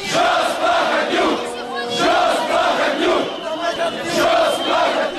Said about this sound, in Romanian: Declarația președinției a fost făcută în timp ce mii de oameni demonstrau la Parlament împotriva învestirii guvernului pentru alegeri anticipate împotriva lui Vlad Plahotniuc.